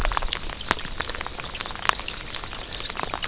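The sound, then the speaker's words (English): Steady rain, neither too heavy nor too light, patters on a raincoat: a dense crackle of small drops with a few sharper taps standing out. No voices are heard. “So I'm sure you can hear the rain on my raincoat, and maybe a bit of trickle of water down the so-called creek.”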